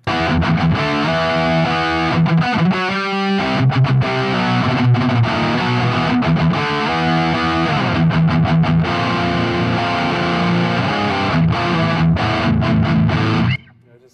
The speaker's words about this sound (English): Yeah, and then, the distortion is again, next level. It's pretty much what sold me on the amp. It's just, like...